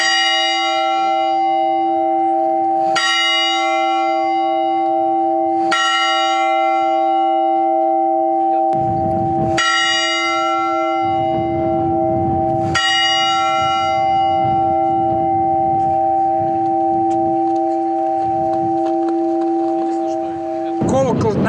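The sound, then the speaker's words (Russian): A large Cossack church bell, ordered from a bell foundry in Voronezh and inscribed 'Volga Cossack Host, khutor Staraya Racheyka' with an image of St George, tolls five times at slow, steady intervals, each strike ringing out loud with a long, shimmering hum that never fully fades, over a low rumbling background. “Я этот колокол заказал на колокольном заводе в городе Воронеже.”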